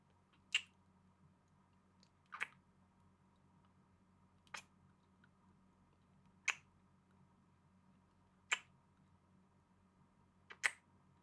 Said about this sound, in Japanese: それじゃあお互いシャワー浴びたことだし、始めちゃいましょうか。まずはキスから。